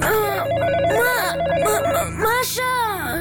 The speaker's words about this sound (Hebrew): שלוש בלילה? מי מצלצל בשעה כל כך מאוחרת? הוא ניגש אל מכשיר הטלפון והרים בחשש את השפופרת.